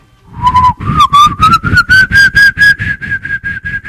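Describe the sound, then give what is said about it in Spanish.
A person whistles, imitating the whistle of the Silbón, a ghost of legend from the Llanos: one long, steadily rising note with a rapid pulsing warble throughout, loud and alone with no talking, lasting several seconds. “El silbido es más o menos así, a ver si me sale.”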